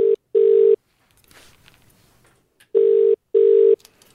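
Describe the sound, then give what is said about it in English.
An outgoing phone call to a man's phone, placed as a live test: the ringing tone is a steady low buzz in two short bursts, then a pause, then two more bursts. The pattern is loud and clear, with no talking. “And this is a live test to find out if your dad will answer the phone with yellow, all right?”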